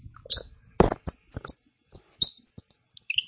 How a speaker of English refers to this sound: It came with a little. Pill full of rosin that you put on the metal part of the bird call when it doesn't make as much squeaky noises.